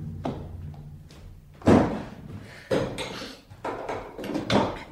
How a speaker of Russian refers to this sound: закрой дверь.